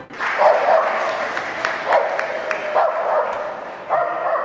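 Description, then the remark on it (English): Several dogs bark and yelp in short, scattered bursts at a Christmas carol service, against a steady murmur of a crowd, with occasional sharp clicks or claps mixed into the lively background. “It's lovely to see all the dogs.”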